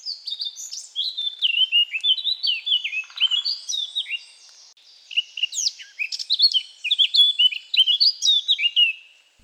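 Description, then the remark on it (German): A blackcap sings in quick, high warbling phrases, bursts of bright chattering notes that turn into clearer, fluting whistles. Several phrases repeat with short pauses, and there is no talking. “Also wirklich fast amselmäßig, sehr melodisch zum Schluss, flötend. Und das hört sich dann so an.”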